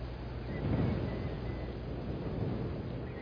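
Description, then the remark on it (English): Steady wind blows with a dense, rushing rumble that stays fairly loud throughout, swelling slightly early on, with no clear voices or other distinct sounds. “It just had the wind.”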